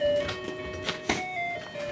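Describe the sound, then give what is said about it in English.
A grandmother's electronic musical doorbell chimes out the melody of Hava Nagila, a traditional Jewish folk song, in thin, tinny, steady tones. A few soft clunks and rustles are mixed in, with no talking. “Her doorbell plays Hava Nagila.”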